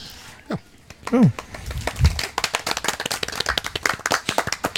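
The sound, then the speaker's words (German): Audience applause at the Podstock, taking place in an orderly way at the microphones, builds into a steady stream of brisk, crisp claps from a group, preceded by a short rising vocal whoop and a few low murmurs before the clapping fills in. “Das ist, glaube ich, der schönste Applaus auf dem Podstock, weil der so schön gesittet an den Mikrofonen stattgefunden hat.”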